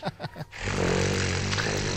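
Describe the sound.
A voice imitates an engine, performed live on air: three quick sputtering bursts, then a steady, loud, low droning rumble that holds for over a second with a slight wavering buzz.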